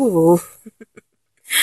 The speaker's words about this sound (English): Oh, I love that little gasp you make.